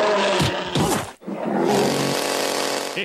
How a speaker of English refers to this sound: A grizzly bear with a chainsaw. Now there's a killing machine.